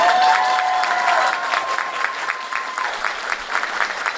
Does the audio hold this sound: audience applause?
yes